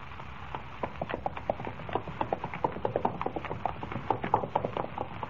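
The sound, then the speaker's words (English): Horse hooves clip-clop in a quick, steady rhythm, a dense run of sharp hoofbeats at moderate loudness with no voices, like a horse trotting along at a steady pace, carrying two riders toward a ranch. “Riding up in front of you on this horse isn't too comfortable either.”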